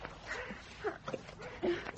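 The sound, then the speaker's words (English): A few faint dog barks sound at irregular intervals against a quiet, hissy background, each one short and muffled. “it is a dog”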